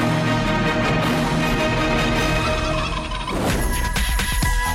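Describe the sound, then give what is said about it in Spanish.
A flock of turkeys gobbles loudly and continuously, their rattling calls overlapping into a dense chorus, with one sharp burst of gobbling standing out near the end. “Cuando los españoles conocieron el guajolote que preparaban los indios y lo llevaron a España, donde lo criaron y se fue modificando la receta hasta llegar al delicioso pavo relleno que saboreamos en nuestros días.”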